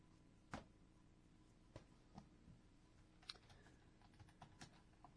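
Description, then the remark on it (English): Scattered typing on a computer keyboard, irregular keystrokes clicking with uneven gaps between them, fairly quiet over a low steady hum, with no talking. “Yeah, sorry. No more typing.”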